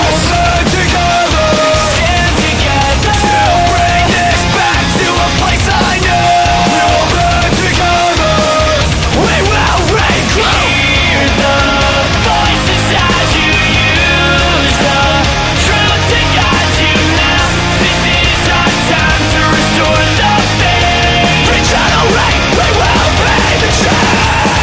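A loud, dense rock song plays continuously, with heavy distorted guitars and drums under harsh yet tuneful screamed vocals that carry a melody throughout.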